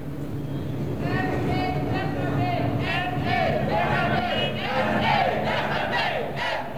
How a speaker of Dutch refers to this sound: In de PC Hoofdstraat wordt een gewonde afgevoerd. En de omstanders roepen ME weg ermee, weg dus met de mobiele eenheid.